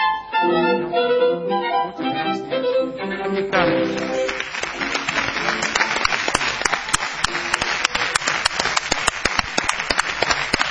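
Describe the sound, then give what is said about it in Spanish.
An audience ovation of dense, sustained applause swells after a short stretch of tonal music and voices, with many hands clapping steadily and loudly until the end. “Son ustedes muy amables, vamos a extender la ovación para honrar al querido Patricio Barton.”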